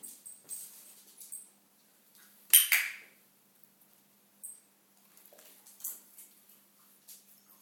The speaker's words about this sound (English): He's bored, he's playing with a clicker. I'm playing with the clicker and the dogs.